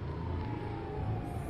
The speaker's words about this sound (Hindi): तुम अपनी गाड़ी साइड में लगाओ। तो साइड में।